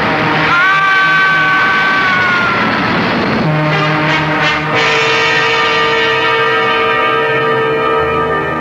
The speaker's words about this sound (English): Look out! The train!